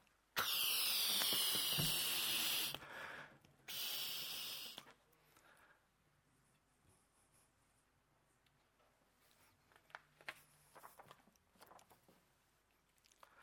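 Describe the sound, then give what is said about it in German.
Someone blows up a balloon by mouth: two long, loud, breathy puffs, the first about two seconds and the second shorter, followed by faint rubbery squeaks and rustling. “Letztendlich muss ich sagen, für das ist ein Ballon da, für aufblasen zu werden.”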